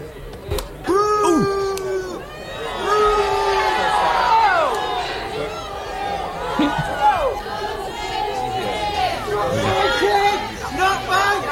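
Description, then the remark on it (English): A large crowd boos loudly and steadily at a man, many voices rising and falling in long jeering tones over shouting and chatter, after thrown eggs splat on the ground at the start, missing him; a protester faintly yells 'Not my king!' “You're going to hear a lot of booing. First, you'll hear the eggs splat, actually, on the ground.”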